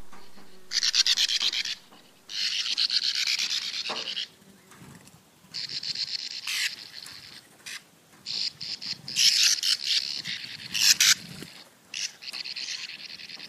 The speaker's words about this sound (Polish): Posłuchajmy obu wymienionych ptaków. Oto jaskółka brzegówka.